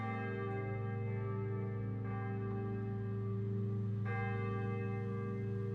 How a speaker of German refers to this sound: Glocken läuten die Weihnacht ein.